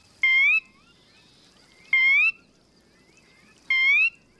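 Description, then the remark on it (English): A sora, a marsh bird, calls three times at even intervals, each a short, rising, whistled note with a bright nasal ring, loud against a soft, steady background hum. “There are many things people can do to protect birds, like this sora, a bird that lives in marshes.”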